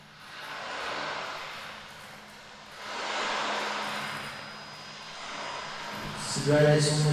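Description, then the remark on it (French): A steady engine drone hums low and continuous while broad rushing swells rise and fade over it, ending with a brief, louder burst of tonal sound. “Variation sur moteur 2.”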